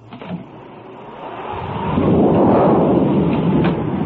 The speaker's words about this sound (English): Perhaps the noise of the storm prevents him from hearing.